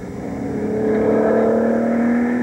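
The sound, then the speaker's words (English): A Gulf Porsche 917 racing car engine revs hard during the Gulf and Porsche team's final tests, its loud buzzing growl climbing steadily in pitch as it accelerates, with no voices over it. “This is where the new racing team of Gulf and Porsche ran the final tests of the Gulf Porsche 917.”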